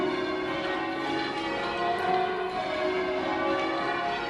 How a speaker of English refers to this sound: Just talking musically at the moment, it seems like the interval between those bells, between them, is about a tone or something like that.